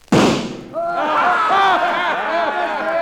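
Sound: gunshot fired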